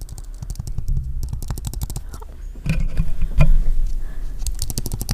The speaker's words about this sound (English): Okay, well, I'm gonna give you a nice ASMR of my keyboard sounds. It's horrible. I'll warn you, but here you go.